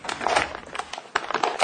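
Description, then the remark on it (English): Crinkly tear-proof paper booklets from Anthem Blue Cross being handled, a steady run of dry rustles and crackles with a few sharper crisp bursts, fairly quiet and without any voices. “tear-proof paper booklets.”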